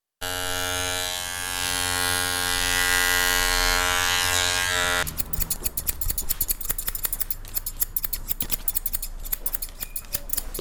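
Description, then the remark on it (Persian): A steady electric clipper buzz runs for about five seconds, then stops and gives way to rapid, crisp scissor snips in a quick, uneven rhythm as a barber cuts schoolchildren's hair very short at a barbershop in the Chahar Rahi Salim Karwan area of Kabul. “قیچی موهای شاگردان مکاتب آنقدر عمیق صورت میگیرد که در بسیاری وقتها بدون پوشیدن کلاه چاره دیگری هم نمیداشته باشد.”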